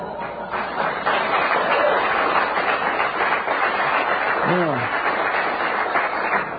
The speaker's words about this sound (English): Manassas, Virginia, I'm standing up and applauding you at this hour, 6:10 a.m. in the morning, as I would applaud a great home run hitter or Muhammad Ali. Applauding you as a messenger of God for this hour.